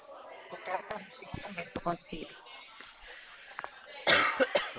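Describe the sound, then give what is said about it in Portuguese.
Dry, hacking coughs burst out, several short sharp bouts in irregular succession, with a muffled voice murmuring between them and a louder coughing fit near the end. “Meu Deus, tô numa tosse seca que só o sangue de cordeiro.”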